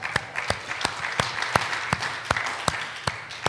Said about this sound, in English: Let's give everybody a hand clap here.